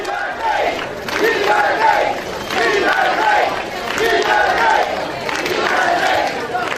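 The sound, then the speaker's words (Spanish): A large crowd in Sanjenjo, Galicia, cheers Juan Carlos continuously, loud overlapping voices rising in rhythmic waves roughly every second or two, like chanting in unison. “Mientras abucheaban en Ávila, vitoreaban en Sanjenjo.”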